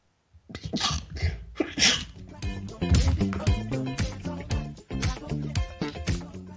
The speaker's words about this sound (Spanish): Ay, qué incómodo, tenía que estornudar. Les estornudé directamente en los oídos.